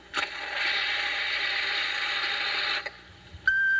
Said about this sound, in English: And you can say something after you hear the sound of seltzer splashing.